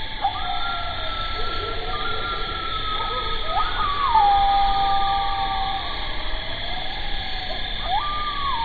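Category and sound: bird, owl hooting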